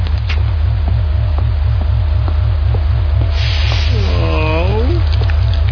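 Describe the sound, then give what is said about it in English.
A hissing, spraying rain effect from a game swells over a steady, pulsing low hum, then a brief warbling, downward-sliding tone rings out as the spray fades. “Now this is acid rain.”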